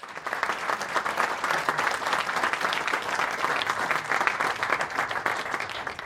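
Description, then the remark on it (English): Sustained applause from a sizeable audience for a motor racing panel including Sir Stirling Moss, a dense wash of clapping that stays steady and fairly loud for several seconds without letting up. “Round of applause, please, for our panel.”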